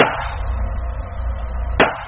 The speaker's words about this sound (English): For our purposes, we'll just focus on the .45 caliber handgun, like the one used in the Virginia Beach shooting. First, the gun without the suppressor.